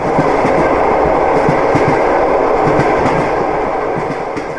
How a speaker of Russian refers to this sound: Потому что недалеко, значит, вот от Троицы Сергиевой Лавры железная дорога, и я, говорит, всегда, говорит, в келье, говорит, лежал и слушал, как едет, говорит, поезд.